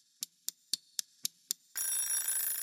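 Six quick, evenly spaced ticks lead into a loud, continuous metallic ringing of a timer bell, bright and high-pitched, with no voices. The timer signals that five minutes are up.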